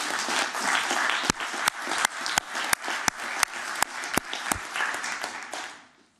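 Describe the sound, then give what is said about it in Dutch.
An audience applauds steadily for about six seconds for the council members who are staying on the council. It is a dense wash of clapping with a few sharp, evenly spaced louder claps running through it, before fading out at the end. “Ik wil eigenlijk een applaus voor ook voor deze mensen die allemaal blijven.”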